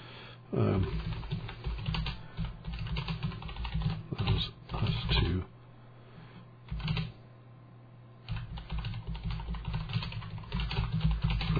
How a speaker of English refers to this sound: It's hard to type with this thing in front of me. So I got the big old microphone, so I gotta kind of hug the mic while I'm typing.